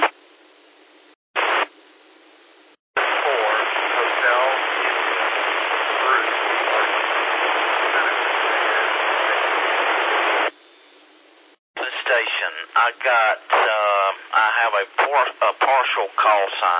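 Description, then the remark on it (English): A long burst of loud, steady radio static hiss on an amateur radio net, with a weak station's transmission underneath too faint to make out, followed by a person talking over the narrow, tinny radio channel. “A little bit down in the weeds, just can't quite get you out.”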